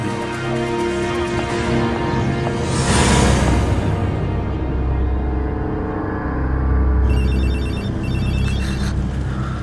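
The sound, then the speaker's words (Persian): Mr. Tyler's telephone rings in rapid, trilling bursts, standing out near the end over a loud, sustained musical backdrop with a swell of noise partway through; nobody speaks. “تلفن آقای تایلره، بفرمایید.”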